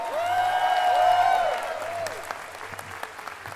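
An audience applauds, a dense wash of clapping that swells and then thins out, with a sustained tonal hum running underneath. Toward the end only scattered individual claps remain.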